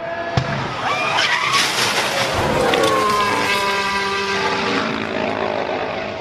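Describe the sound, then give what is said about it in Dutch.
A sharp single pop as the left front tyre of Vettel's Ferrari racing car goes, cracking out near the start, followed by a loud engine roar whose pitch shifts and wavers as the car carries on before hitting the tyre barrier. “Ja, maar je zag op de beelden wel opeens, er plofte iets.”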